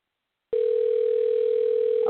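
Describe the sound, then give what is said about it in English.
After a brief silence, a telephone ringing tone starts on the call: a single steady mid-pitched hum, moderately loud and unbroken to the end, with the thin sound of a phone line and no voices. “We hear you ringing this time.”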